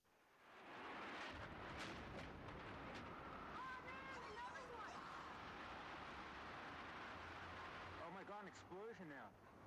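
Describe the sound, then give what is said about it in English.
A loud explosion bursts in and leaves a dense, roaring rumble that fills the scene, while people shout and cry out in alarm over it. “Explosion now. Oh my God!”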